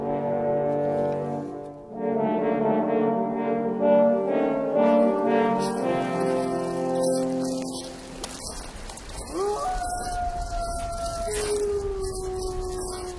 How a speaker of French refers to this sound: Ah bah je vous l'avais promis, deuxième partie, bah oui, tiens, tenez, il y a des loups.